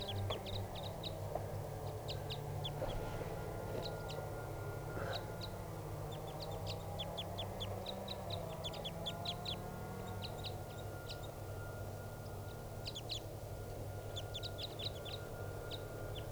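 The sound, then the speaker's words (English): Two crossbills, one of them greenish, call in short, sharp, high-pitched chips, given singly and in quick clusters throughout, over a steady low rumble with no talking. “I think it's another crossbill.”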